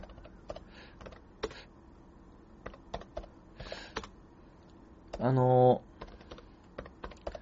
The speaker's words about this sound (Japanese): これを、まあ、印刷して、貼っつける作業をやっていきましょう。ちょっとね、タイピングの、音が響く中のラジオということになりますけどもね。